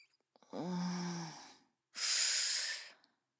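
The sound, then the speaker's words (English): Heavy breathing: a voiced, slightly groaning breath followed by a loud, airy exhale, two breaths in quick succession with no talking. “Faster now. Go on, just enough to notice the difference. Let me hear it in your breathing.”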